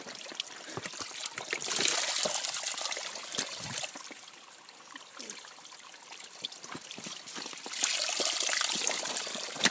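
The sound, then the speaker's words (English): Creek water near a waterfall, on a spring hike up the creek, flows in a steady, bright rushing hiss, dotted with quick trickling splashes and gurgles. It swells louder at the start and end, with no voices. “A good portion of the spring hike involved climbing what was basically a creek.”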